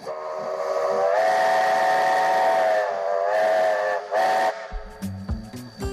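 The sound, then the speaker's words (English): A loud steam train whistle blows in long sustained blasts with a breathy hiss, cutting off briefly and sounding again, as an excursion train pulling 10 carriages of supporters leaves Westport in the early evening; rhythmic low chuffing of the departing steam engine takes over at the end. “On Friday the 29th, the excursion train pulling 10 carriages full of supporters left Westport in the early evening.”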